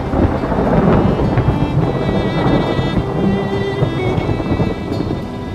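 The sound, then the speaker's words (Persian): Heavy rain pours steadily and loudly, with deep rumbling thunder rolling underneath throughout, a dense downpour with no voices. “میبینی که بارون شدیدتر از قبل.”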